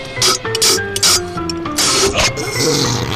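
Repeated wet sucking slurps of blackberry-flavored sparkling club soda sipped over a Blitz chew-up mint, several short hissy bursts in an uneven rhythm over a faint, steady tonal hum, fairly loud and without talking.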